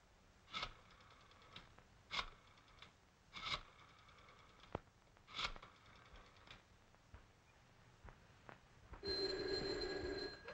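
An old-fashioned telephone bell rings in several short, sharp bursts with small clicks between them, then gives a longer, steady buzzing ring at the end. No one speaks.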